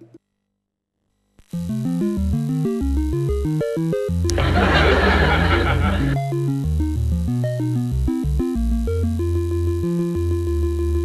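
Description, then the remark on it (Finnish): Chiptune intro music from a Commodore 64 game, recorded from a real Commodore 64 rather than an emulator, plays on its own: bright square-wave melody over a thumping bassline, with a burst of noisy drum-like hiss in the middle before the tune carries on steadily. “Kaikki äänet, joita sä kuulet, on oikeasta Commodore 64:sta, eikä mistään roskasta emulaattorista.”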